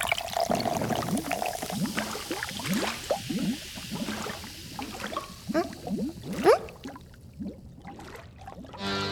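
Shiruko Cider, a dark, strongly sweet-smelling fizzy drink, being poured, with a steady run of gurgling glugs over a bright carbonated hiss, slowing to a few last splashes near the end. No one speaks.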